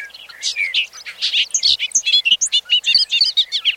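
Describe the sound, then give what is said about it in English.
A bobolink's bubbling, tumbling song pours out in a rapid jumble of metallic, warbling notes, clear, with no other sounds around it; the bird sings over an open field across a road in the evening. “Across the road, over the open field, a bobolink sings his last song of the evening.”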